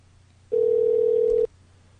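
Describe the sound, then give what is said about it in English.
A home telephone rings with one steady, pure electronic tone lasting about a second, loud, then cuts off abruptly. Faint background hum, no voices. “Must be a home phone.”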